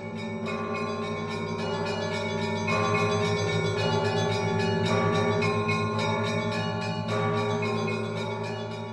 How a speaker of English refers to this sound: Does a bell ring? Oh, definitely. The last moment as the lights are coming down in our production here is just bells, all different kinds and loud and soft, tons of bells.